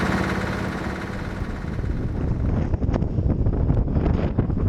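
Strong gale-force wind roars and buffets the microphone in a dense, continuous rush, with gusty surges and flapping bursts close by; no one speaks.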